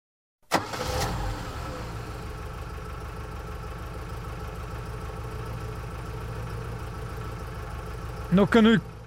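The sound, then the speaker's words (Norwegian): A car engine turns over and settles into a steady, rumbling idle that runs for several seconds as the car arrives at a car workshop, with a brief tonal, voice-like sound rising near the end. “Gangsteren som gang på gang ødelegger bilen. Han ankommer bilverkstedet.”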